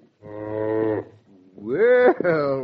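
animal, cow mooing

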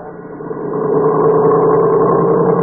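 vehicle, car engine running

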